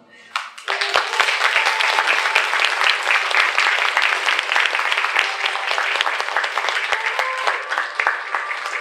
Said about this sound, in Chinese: 请家人们用你们热烈的掌声请我的岳父岳母以及我的妻子走上台来。